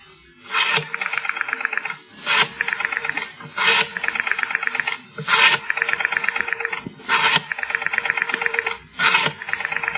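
A woman picks up a rotary telephone by her bedside at about 8 a.m. and dials it: six or so mechanical cycles, each a short scraping wind followed by a rapid, buzzy ratcheting return, fairly loud, with no voices.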